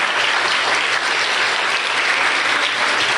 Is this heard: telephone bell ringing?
no